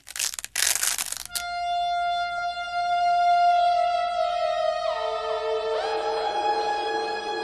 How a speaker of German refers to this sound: Schnell, ich fessle ihn los und du mit deiner tollen Geschicklichkeit kannst ihm langsam das Klebeband vom Mund entfernen.